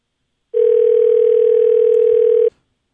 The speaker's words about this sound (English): Weren't we supposed to, like, beep that so you don't know the number? Well, you can't pick that up from the dial tone.